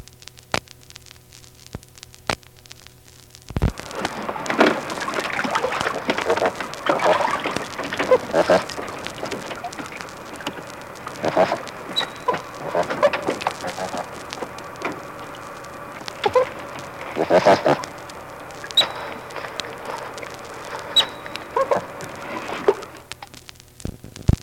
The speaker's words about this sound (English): More otter sound effects now, the grunts and squeals.